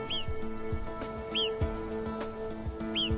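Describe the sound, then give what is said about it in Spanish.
Three shrill, high-pitched alarm calls warning of nearby danger, usually a golden eagle, each a quick rising-then-falling squeal, spaced about a second apart over a low, steady rumbling background with occasional soft thumps, in Rodna National Park in the Eastern Carpathian Mountains. “Sus agudos chillidos son una advertencia señalando un peligro cercano.”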